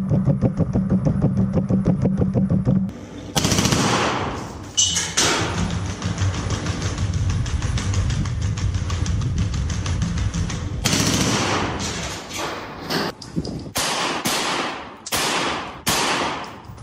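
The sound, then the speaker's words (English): Long, rapid bursts of automatic gunfire crackle over a low mechanical rumble, followed by a handful of separate, sharp loud shots spaced irregularly. No one speaks. “It's got a what looks like an AK-47. I'm not an expert, so I could be wrong about that. But it's an automatic weapon on its back.”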